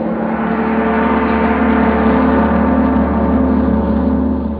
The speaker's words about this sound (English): That, my friends, was a big brass gong. It is used in this story led along to indicate that we're about to travel to points where the plot will further unravel.